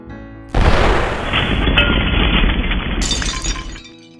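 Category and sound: sound effect, car explosion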